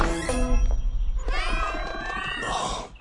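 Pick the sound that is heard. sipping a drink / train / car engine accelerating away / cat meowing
cat meowing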